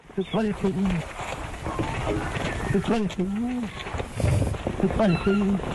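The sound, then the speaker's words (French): A duck mimics its keeper's favourite swear phrase, "You bloody fool," with an Australian accent, repeated several times in low, raspy, speech-like bursts over a steady noisy background. “C'est le canard qui parle avec l'accent australien en plus.”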